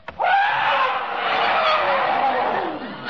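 An elephant tied to a house trumpets in one long, brassy, strained blast that is loud and holds for about three seconds before tapering off, with no talking around it.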